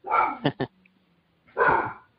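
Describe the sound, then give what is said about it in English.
A dog named Fred barks at something heard outside in a quick burst: one drawn-out bark, two short sharp ones right after, then a pause before a final loud bark. No voices are heard. “He heard something outside and had to bark at it.”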